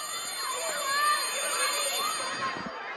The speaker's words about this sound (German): Es ist ein warmer Morgen im September 2016. Die Sonne scheint schon früh über die Hügel der englischsprachigen Nordwestregion Kameruns. Zum ersten Mal nach den Ferien läutet die Schulglocke.